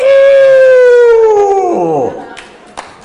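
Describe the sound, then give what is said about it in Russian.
A person loudly imitates a rooster's crow: one long, strained, wavering call of about two seconds that holds a high pitch, then slides down and breaks off, followed by faint rustling. “А когда петуху уже это все достало, как бы, он...”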